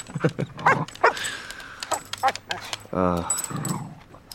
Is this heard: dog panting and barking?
yes